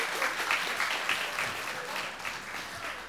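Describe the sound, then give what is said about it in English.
A crowd applauds participants called kings and queens, dense clapping filling the space at a fairly loud, even level for a few seconds without pause. “Give our kings and queens a round of applause.”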